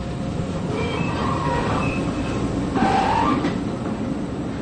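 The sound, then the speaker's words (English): A small electric work train rumbles steadily through a sewer tunnel being dug for a new sewer line, its wheels letting out thin metallic squeals now and then over a constant, fairly loud roar. No one speaks. “The work requires lots of highly specialized equipment. Electric trains, gas monitors, conveyors, customized tunneling machines.”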